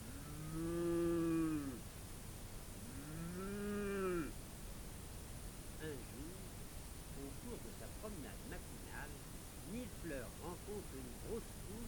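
Two long, drawn-out cow moos in a stable, one after the other, fairly loud, followed by a quieter stretch of low background rustling with faint, scattered small sounds.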